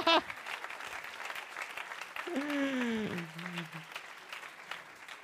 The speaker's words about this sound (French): Vous pouvez filmer. Et à présent, vous pouvez applaudir si vous voulez, et sinon...